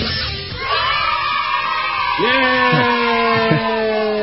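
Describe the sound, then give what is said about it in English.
A group of children cheer and shout together, cheering radio host Robert Scott Bell. Their high voices rise in sustained excited whoops and yells that carry steadily over a few seconds of crowd noise. “It's kind of like pharmaceutical kids cheering Robert Scott Bell, right?”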